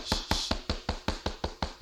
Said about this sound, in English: Who is that knocking? Baby? Who is that in there?